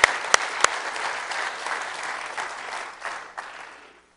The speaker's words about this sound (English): Don't you feel like you want to clap hands? Let's just praise God because of that.